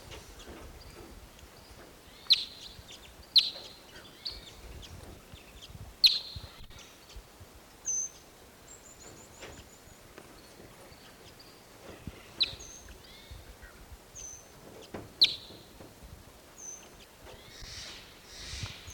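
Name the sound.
wild birds calling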